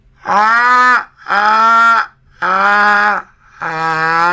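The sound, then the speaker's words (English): A voice imitates a magpie call: four loud, drawn-out, wailing notes with a rich, buzzy tone, each lasting under a second and separated by short pauses. “You want to know how a magpie sounds?”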